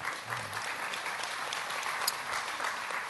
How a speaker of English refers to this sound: I would call that a smattering of applause, actually. It's not a wholehearted commitment. That's called forced applause. Started by the lady in pink in the front row.